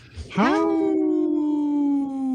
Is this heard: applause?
no